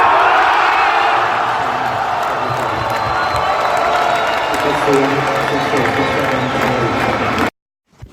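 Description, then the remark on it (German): At a tennis match, a loud, dense crowd roars and cheers continuously as the Czech doubles pair wins the match tiebreak 10:8, with whoops, shouts, chants of "Czechia" and scattered clapping blending into a sustained wall of noise before it cuts off abruptly near the end. “Gut, das war jetzt unschwer am Jubel zu erkennen, wie die Partie ausgegangen ist.”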